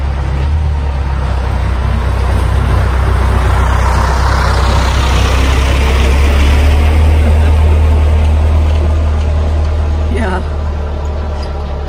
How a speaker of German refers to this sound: Lass dir kurz Pause, da kommt ein Traktor. Da kommt ein Traktor.